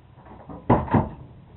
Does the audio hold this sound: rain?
no